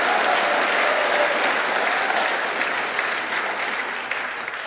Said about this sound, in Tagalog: Mahinang pumalakpak mga tao rito.